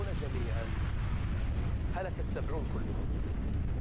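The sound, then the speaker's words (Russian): A loud, continuous low rumble of thunder from a lightning strike fills the whole stretch, with voices crying out briefly in the middle. “Семьдесят человек поражает молния, и они падают на землю и умирают.”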